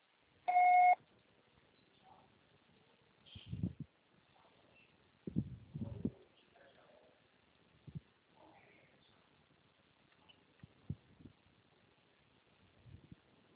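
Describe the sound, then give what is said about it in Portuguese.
A single loud, steady electronic beep of a voicemail recorder sounds for about half a second, then gives way to scattered muffled low thumps and rustling handling noises, with no talking. “O processado será tarifado após o sinal.”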